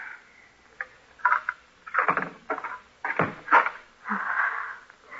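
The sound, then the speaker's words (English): A door is unlocked with a key and opened: several sharp metallic clicks and rattles, then a drawn-out squeaky creak as it swings, with no voices. “I'll open the door.”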